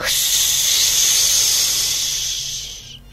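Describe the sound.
A person imitates a snake during a cobra exercise, raising and lowering the body from the floor, with one long, steady, sharp hiss held for about three seconds before it cuts off. It is fairly loud, with no talking.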